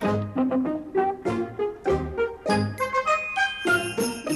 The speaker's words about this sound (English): Jingle, jingle, jingle, you will hear my sleigh bells ring.